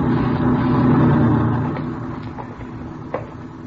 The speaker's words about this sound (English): Not a very big lot. No, it's pretty small. Watch the truck, Ben.